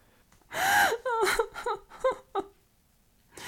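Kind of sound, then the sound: human body sound, crying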